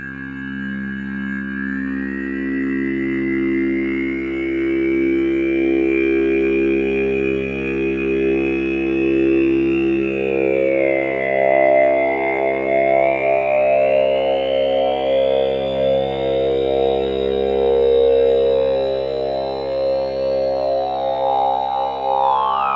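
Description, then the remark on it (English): A sustained synth drone from a 2HP Vowel oscillator run through a mixer and effects chain, with steady low harmonics, topped by a shimmering granular layer from a Mutable Instruments Clouds module, its buffer frozen live with a button, whose high pitch slowly rises and sweeps into a continuous texture. “Now, that's a case of freezing the buffer on Clouds, so there's some sound fed in, and then just hitting freeze live with a button on the module.”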